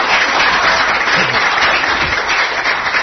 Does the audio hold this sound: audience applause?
yes